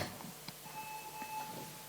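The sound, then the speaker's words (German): A faint, steady electronic beep holds one high pitch for over a second against quiet background noise, with a few soft knocks and clicks around it and no one talking. “Da piepst jemand mit dem anderen Logo.”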